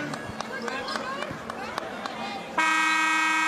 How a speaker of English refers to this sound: comes in strong from the right side, and a whistle and a foul.